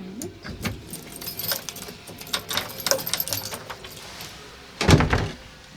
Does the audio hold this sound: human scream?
no